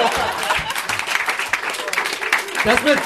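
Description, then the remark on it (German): An audience claps steadily, a dense wash of overlapping hand claps at even loudness throughout, with some low murmuring and a few voices underneath. “Das war's, ihr könnt klatschen.”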